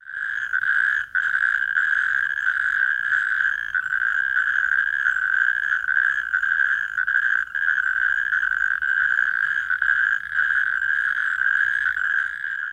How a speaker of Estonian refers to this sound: Kõredel on väga iseloomulik ja vali kõrisev hääl, mida me kuuleme meie oludes mai või juuni öödel. Vaiksetel öödel võib see kostuda lausa mitme kilometri kaugusele.